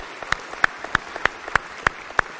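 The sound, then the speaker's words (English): An audience at a church service gives a hand clap of praise to God, sharp hand claps landing together in a steady, even rhythm about three per second, with softer scattered claps in between and no voices. “If you believe it, let's give him a hand clap of praise.”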